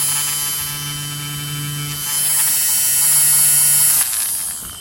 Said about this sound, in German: Jetzt haben Sie so ein batteriebetriebenes Gerät, wo man kann Milch aufschäumen kann. Jetzt lassen wir das mal laufen